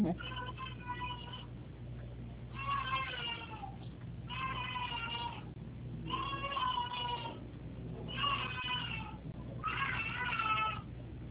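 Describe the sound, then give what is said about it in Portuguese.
An 11-month-old baby girl crying at bedtime in a series of about six drawn-out, high wailing bursts with short gaps between them, fairly loud over a steady low hum. “Tá chorando, né? Tá na hora de dormir.”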